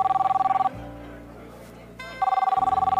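An outgoing phone call's ringback tone purrs in a steady repeating pattern, two bursts of ringing separated by a pause filled with a low hum, heard clearly through the handset with no talking.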